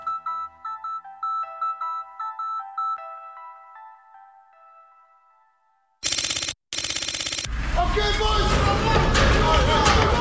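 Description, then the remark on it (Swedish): A simple chiming melody plays, then fades into silence. Loud harsh bursts break in, followed by a dense roar of a mob of masked men storming a police force with raised shields and batons in a riot drill, paving stones flying through the air, with shouting and crashing. “Gatstenarna flyger i luften när mobben av maskerade män stormar fram mot polisstyrkan som står med höjd sköld och batong.”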